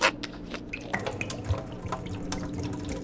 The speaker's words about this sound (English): By the way, I'm over by the vending machine right now because I want to grab a bottle of water real quick. But before I head back to the studio, I'm going to pour a third of this water out.